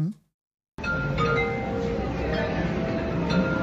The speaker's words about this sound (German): Ja, das ist das Glockenspiel in der Böttcherstraße.